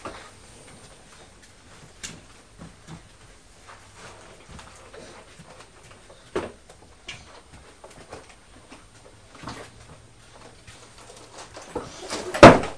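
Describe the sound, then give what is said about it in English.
A box falls to the floor, landing with a loud, sharp thud near the end, preceded by a few quieter scattered knocks and taps. No one speaks. “You dropped the box.”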